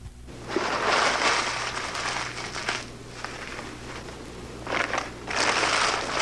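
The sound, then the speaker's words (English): Newspaper is crinkled and crumpled to put under the grate while laying a fire in a fireplace, in three bursts of dense, crackly rustling, with brief quieter pauses between them and a faint steady low hum underneath. No one speaks. “To begin, I crinkle newspaper to put under the grate.”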